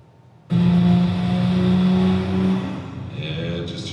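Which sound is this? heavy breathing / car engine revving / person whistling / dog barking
car engine revving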